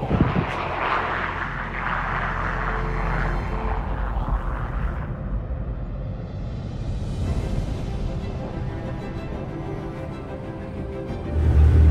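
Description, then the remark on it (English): A loud, steady roar of the engines of a large ski-equipped LC-130 propeller plane fills the air, a broad rumbling drone that shifts in pitch as the aircraft powers up and takes off in the Arctic, with no voices. “So we are in the middle of the Arctic, and our plane, the LC-130, is just taking off without us.”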